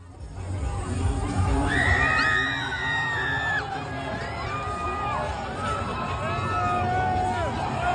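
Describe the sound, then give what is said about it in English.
A woman's shrill, sustained screams rise and fall over a dense, chaotic crowd shouting and yelling as they flip a car, continuous and loud throughout, with several overlapping cries. “The woman screaming is like while they're flipping the car”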